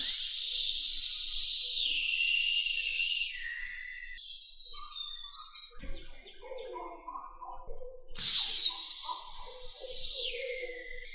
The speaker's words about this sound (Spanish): Escucha el sonido de la cobra.